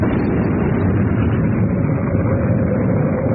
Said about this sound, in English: Listen, that rumbling from deep within the Sphinx.